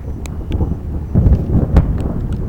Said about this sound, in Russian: Это, блядь, было что? Гроза.